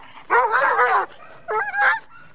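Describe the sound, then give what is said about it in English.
A Doberman protection dog, unleashed during a display by the Israeli Civilian Canine Battalion with a man playing an intruder, lets out two loud, drawn-out barks, the first longer and wavering, a brief pause between them, with no one talking. “Then a Doberman was unleashed.”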